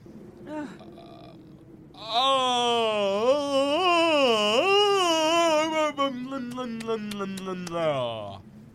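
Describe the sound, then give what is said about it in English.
A long, loud, voiced yawn stretches for about six seconds, its pitch wavering before sliding downward at the end. A short vocal sound comes before it, and faint clicks follow near the close. “That's how I yawn.”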